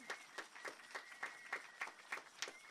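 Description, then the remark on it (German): Faint, steady rhythmic clapping from an audience applauding Fridays for Future and Greta Thunberg, about ten even beats in a few seconds, with a thin continuous high tone humming underneath and no voices. “Der Beifall gehört Fridays for Future und ein bisschen auch Greta Thunberg, die das initiiert hat.”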